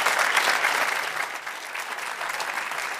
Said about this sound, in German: erstmal ein herzliches Willkommen und einen großen Applaus aus München rüber nach Katar.